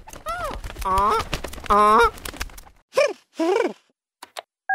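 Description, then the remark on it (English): A goose, Gary the Goose, honks loudly, a burst of several nasal calls followed by a couple of shorter, falling honks, with brief quiet between them. “And Gary the Goose.”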